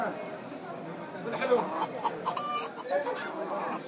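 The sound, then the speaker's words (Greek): Hens cluck in short, irregular bursts at a market stall amid a busy, crowded market bustle, with indistinct voices chattering underneath at moderate loudness throughout. “Εδώ επιλέγεις ποια κότα θέλεις, λες αυτήν, την παίρνουν μέσα και στην παραδίδουν έτοιμη.”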